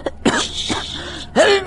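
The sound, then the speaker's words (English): A loud sneeze with breathy, voiced build-up gasps, ending in a sharp burst, heard alone without talking. “I didn't sneeze.”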